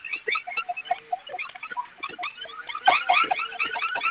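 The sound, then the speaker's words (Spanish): An electronic security alarm blares continuously, a busy stream of rapid chirping, warbling tones with no pause, sounding thin and narrowband as if heard over a phone line. No one speaks. “Ok, vamos a ingresar su clave del armado para que se silencie la alarma.”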